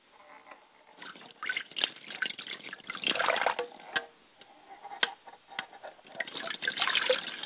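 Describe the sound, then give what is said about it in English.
Water splashes and trickles in irregular bursts, with sharp drips and spatters mixed into a steady wet rush, as a person pours water over their hands and face to cleanse them, the water also hitting the ground. “I don't want to greet my ancestors with a stale face, so I pour the water and I cleanse my hands and my face.”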